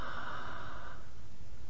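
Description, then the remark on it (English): A single deep, airy breath drawn with the chest, strongest in the first second before trailing off into quiet. No one speaks. “Okay, normal breathing. Leave the eyes.”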